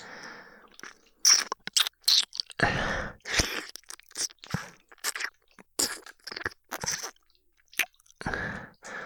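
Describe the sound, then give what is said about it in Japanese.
Wet ear-licking mouth sounds: a steady run of irregular smacks, clicks and squishy slurps, some sharp and bright, some fuller and lower, with no talking. “耳を舐められる音が気持ちいい。”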